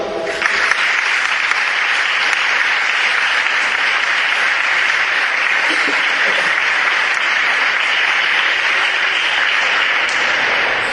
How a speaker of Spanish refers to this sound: para los cuales solicito un aplauso.